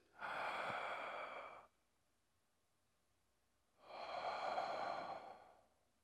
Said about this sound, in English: And I repeated that about 3, 4, 5 times, holding her tight, breathing in slowly, exhaling.